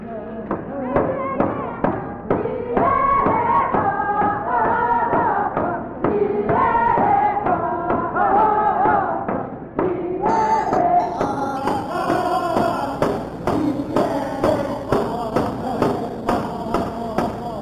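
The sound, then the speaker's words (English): A group of voices sings together in a steady chant over rhythmic drumming and thumping, loud, as a dance group performs a couple of dances for a crowd, with a brighter, higher tone joining midway. “And finally, the Tanana Group entertained the crowd with a couple of their dances.”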